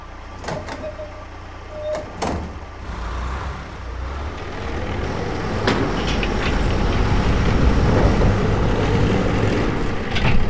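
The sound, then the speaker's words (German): A crawler excavator drives over the truck's lowered tailgate onto its loading bed: a few sharp metallic clanks at first, then a heavy, grinding engine rumble with rattling tracks that grows steadily louder. “Wenn er die Ladeklappe runterklappt, fährt der Raupenbagger einfach darüber auf die Ladefläche.”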